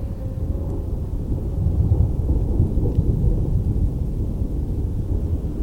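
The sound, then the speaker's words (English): A deep, continuous roar of thunder with lightning rumbles low and heavy for several seconds, swelling slightly midway, with a faint rain-like hiss above it and no distinct sharp crack. “Lightning cracks and thunder roars.”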